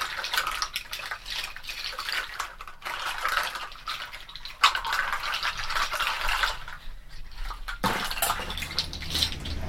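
A shaker from Brazil, filled with plastic caps, rattles steadily, its dense, hissing patter sounding like running or splashing water, with brief swells and a sharper shake near the end; no one speaks.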